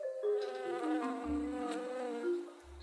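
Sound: flies buzzing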